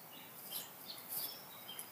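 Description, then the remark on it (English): Faint, high-pitched bird chirps scattered across a quiet outdoor background on a sunny morning at about 63 degrees, with several short tweets from birds at irregular intervals. “Sitting out here drinking coffee, eating toast in the morning, listening to the birds.”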